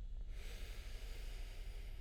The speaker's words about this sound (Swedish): Och andas in tillit